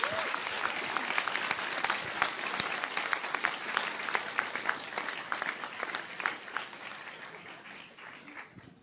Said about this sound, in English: Amen. Wonderful. Let's give her another big cheer. Well done.